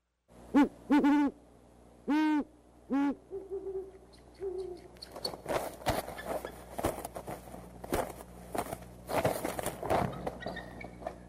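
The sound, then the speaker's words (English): A male owl in its nest gives several loud hoots, and the female answers from off in the background with a lower, softer hoot. Then an eagle screams and chitters as it flies into the nest, with rough, noisy bursts of commotion like rustling or scuffling. “Well, you heard the male owl in the nest hooting, and then off in the background, a lower voice, that was the female responding.”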